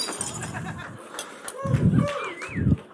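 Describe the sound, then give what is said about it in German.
Unneeded dishes crash and shatter in a few loud bursts, with scattered clinks and ringing shards sliding around between the impacts. “Das waren die, die kaputt gehen durften, zum Glück.”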